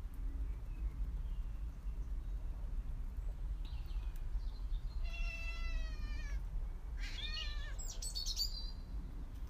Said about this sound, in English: You're frightening the birds, Candice, with that horrible voice of yours. You're a witch's cat